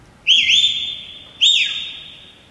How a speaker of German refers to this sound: Was ist hier? Harpo Marx? Ist das Harpo Marx Gedächtnispfeifen? Da pfeift ein Mensch. Ich frage mich nach wem oder was. Der winkt auch irgendwem. Winkt der einem anderen Menschen oder einem Hund?